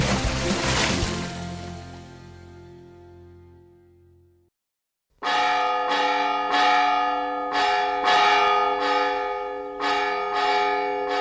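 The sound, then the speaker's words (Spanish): Large bells ring loud: one strike hums and fades away, then after a brief silence a steady series of overlapping strikes peals out, rich and resonant, with no voices. “Quejará el extraterrestre, que con campanas le recibimos.”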